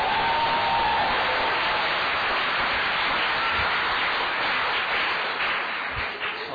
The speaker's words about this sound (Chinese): 我哋大家鼓掌。